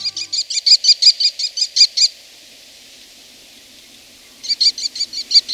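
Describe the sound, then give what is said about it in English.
American Kestrel, a North American falcon, calls: a rapid, shrill series of high 'klee-klee-klee' notes, loud and even, then a short silence before another quick burst of the same piercing notes. “The American Kestrel, sporting a russet back and tail, the males have gray wings, is the smallest, most numerous, and most widespread North American falcon.”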